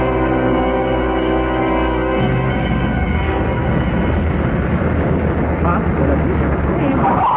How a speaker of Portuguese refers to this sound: Eu conheço o ruído do carro.